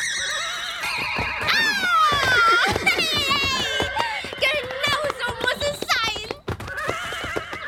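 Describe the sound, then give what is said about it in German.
A horse whinnies loudly and repeatedly, its shrill neighs rising and falling over a rapid clatter of hooves as it performs wild capers, busy throughout with a brief dip near the end. “Mein Pferd macht tolle Kapriolen.”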